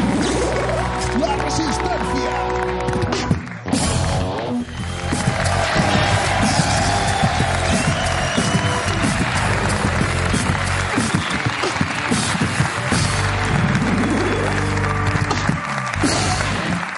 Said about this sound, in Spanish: Pues muchas gracias a todos por venir. Un aplauso para Jorge Ponte, que ha estado contando movidas.